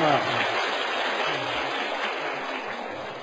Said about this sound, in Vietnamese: Thì chúng con xin toàn thể học viên cho một tràng pháo tay.